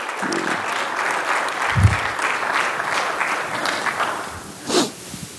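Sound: audience applauding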